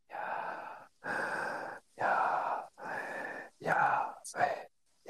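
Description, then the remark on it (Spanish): Steady, deliberate breathing in and out, driven by the diaphragm: about six breathy, hissing breaths in an even rhythm, each lasting under a second with short pauses between, loud and clear with no talking. “Y por supuesto, porque vos, por más que estás dormido, por más que no seas creyente, estás alabando a Dios, porque tu diafragma hace esto.”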